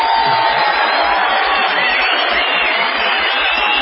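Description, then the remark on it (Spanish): A large live audience at a La Venganza Será Terrible show in Córdoba capital roars continuously from the upper and lower stands, a dense wall of cheering, whooping and shouting that stays loud and steady throughout without pause. “¿Quiénes gritan más? ¿Los de abajo o los de arriba?”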